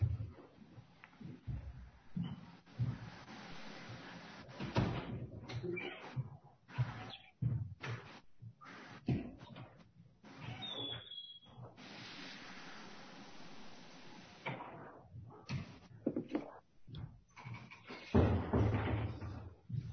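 A door is pushed shut at a public hearing, with a few dull thuds and knocks against a steady wash of background noise and outside rumble. No one speaks.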